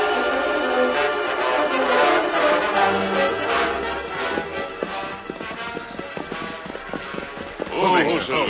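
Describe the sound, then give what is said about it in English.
Horse hooves clip-clop in a quick, steady rhythm, growing clearer partway through, set against a dense, busy tonal background with a voice briefly rising near the end. “Now we can water the horses here.”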